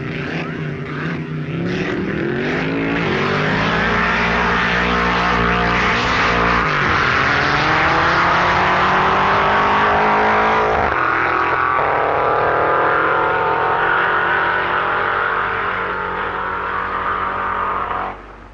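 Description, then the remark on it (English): Loud, sustained engine roar from a 4.7-litre Cobra sports car and a 1.5-litre Dragon Dragster in a drag racing match race, revving hard with rising and shifting pitch as they accelerate, continuous for the whole stretch with no talking. “American team captain Dante Deuce pitted his massive 4.7-litre Cobra sports car against Dennis Jenkinson's tiny 1.5-litre Dragon Dragster.”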